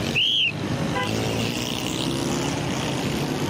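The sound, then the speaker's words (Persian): Dense, continuous roar of busy street traffic in the city of Karachi, loud, with a brief shrill whistle blast near the start rising above the engine rumble. “من باید ترافیک را تنظیم کنم. اما اینجا بسیار سر و صدا است.”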